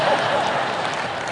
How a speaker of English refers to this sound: I don't know why you're clapping at that, but all right.